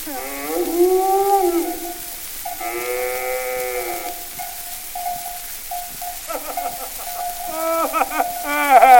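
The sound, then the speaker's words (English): A cow moos several times in a row, long drawn-out wavering calls that come through loud, with no talking over them. “it's Paddy Flynn, and with him, Sookie the cow”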